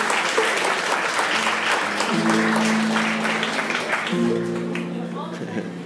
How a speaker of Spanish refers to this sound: Eso merece un aplauso, por favor.